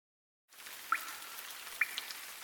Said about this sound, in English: Drip, drip, drip. It's the rain. We like the rain.